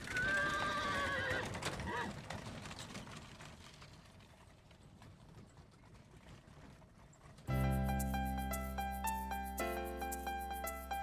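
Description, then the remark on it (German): A horse whinnies loudly at the start, followed by steady clip-clopping hooves and the rumble of a moving horse-drawn carriage, the way to reach Liège from Aachen, before sustained piano chords take over in the final seconds. “Die wohnten allerdings in Lüttich und das war von Aachen gar nicht so weit weg und mit der Pferdekutsche gut zu erreichen.”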